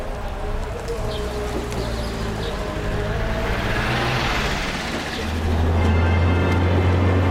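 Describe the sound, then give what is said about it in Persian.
A car engine hums steadily as the car is being driven, a low continuous drone that swells louder and deeper toward the end, with faint high chirps in the background. “ماشین خوبیه نه؟”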